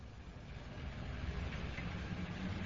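bus engine idling

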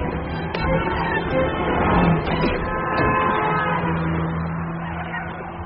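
street traffic

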